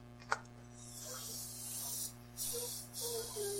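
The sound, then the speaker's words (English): Breathy, hissing bursts of air as a group of people blow up balloons together, several long puffs in a row with short pauses between, steady. “Put all of our worries in this balloon. Just blow it up and hold them”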